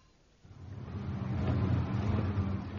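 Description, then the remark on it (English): A car engine starts up low and rumbling, then revs and builds steadily in loudness as the vehicle pulls away, a continuous engine drone with no voices. “Can we get a car? Can do.”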